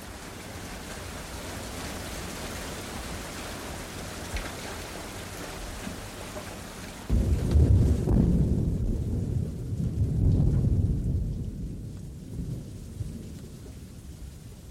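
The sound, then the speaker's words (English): Steady rain hisses alone, then a deep, loud roll of thunder rumbles in partway through, swelling in waves before slowly fading back under the rainfall. “But the blind person never has a roof over his head until thunder puts it there.”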